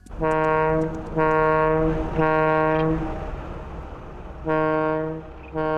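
A large cargo ship leaving the harbor of Naples sounds its horn in several long, deep, loud blasts separated by short gaps, over a steady low rumble of harbor background noise, with no one talking.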